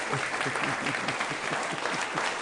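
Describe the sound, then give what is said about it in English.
A crowd applauds in a steady, dense patter of many hands clapping at once, sustained and even in loudness throughout, with no voices standing out above it. “I think that deserves a round of applause, though.”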